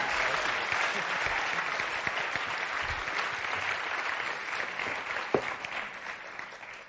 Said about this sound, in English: Can I have a round of applause for these two volunteers, please? That's great.